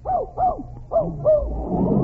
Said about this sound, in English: Ah, just as I thought. You do have a dog in here. He's in that cot. Quiet, Fletcher, quiet.